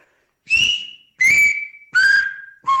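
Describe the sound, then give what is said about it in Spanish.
A person whistles the Silbo vowels I, E, A, U and O, from high to low: four separate sustained notes, each stepping lower in pitch, with short pauses between, clear, with no talking. “Repito, I, E, A y después U y O, que lo voy a silbar igual.”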